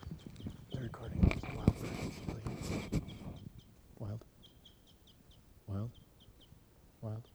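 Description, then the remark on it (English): A wild bird calls with a steady run of short, high chirps, joined later by three louder, drawn-out wavering squawks. It follows a few seconds of busy clattering noise. “There's a wild bird still here.”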